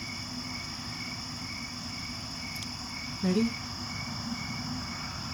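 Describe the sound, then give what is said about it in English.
A steady, dense chorus of crickets chirping outdoors at night in mountain wilderness, picked up by a DIY parabolic trash-can microphone outside a truck, continuous and even throughout with a low rumble underneath; a voice briefly says a single word partway through. “Listen to that nightlife out there. Crickets.”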